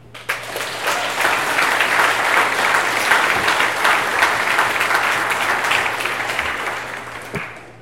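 A crowd at an EFF event applauds steadily for several seconds as EFF's Associate Director of Community Organizing is introduced, a dense patter of many hands clapping at an even volume before tapering slightly at the end. A faint low hum sits underneath.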